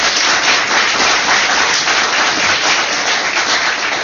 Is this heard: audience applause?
yes